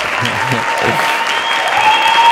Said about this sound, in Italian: Gli applausi sono belli. Meritati. Più che meritati.